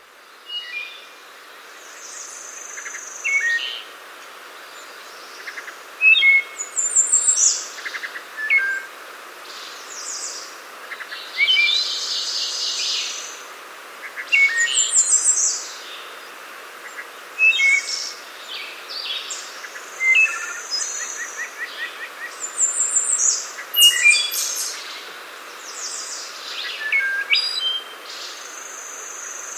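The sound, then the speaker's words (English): A wood thrush, recorded in 2013 in Virginia, sings alone, repeating short flute-like phrases ending in ethereal trills every few seconds, clear over a faint hiss of background. “Here is one of Jonathan Franzen's favorite bird calls, the wood thrush, recorded in 2013 in Virginia by Daryl Peterson.”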